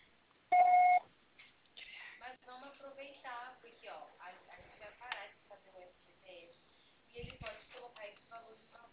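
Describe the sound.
A single loud, steady voicemail beep lasting about half a second, followed by a person speaking continuously for several seconds.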